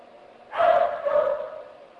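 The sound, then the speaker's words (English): A dog lets out a couple of drawn-out barks that run together over about a second, with no talking around them. “Freak out that dog.”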